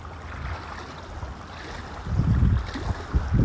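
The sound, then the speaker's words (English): Small wind-driven waves lap at the shore at the recordist's feet in irregular splashes, growing louder toward the end, with a steady rush of wind and gusty noise buffeting the microphone throughout. “May be able to hear in the background, the wind is definitely making those waves lap in at my feet.”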